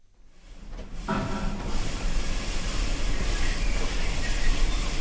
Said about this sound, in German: Eine Tierpflegerin spritzt gerade die Anlage der Klammeraffen ab. Sonst ist es heute ganz ruhig im neu gestalteten Affenhaus.